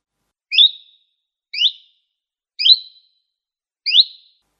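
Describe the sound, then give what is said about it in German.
Four evenly spaced, high, clear chirping notes from a common chiffchaff, each a quick rising sweep, repeated in a steady chiff-chaff rhythm with short pauses between, the bird singing alone. “Wir fangen einmal mit dem Zilpzalp an, der ist in Eurasien und Nordafrika verbreitet. Sie hören jetzt zunächst einmal, wie der Vogel singt und so können Sie sich schon mal die Frage stellen, wie könnte das zugehörige Spektrogramm aussehen?”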